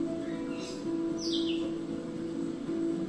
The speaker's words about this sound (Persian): اطرافت رو نگاه کن. به صدای پرنده ها گوش بده.